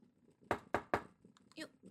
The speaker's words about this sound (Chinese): 有人敲门。